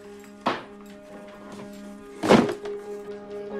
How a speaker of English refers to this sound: Wearing her father's tartan shirt, Claire busily picks up a box. She pulls across a chair, places the cardboard box onto it, and starts putting books in.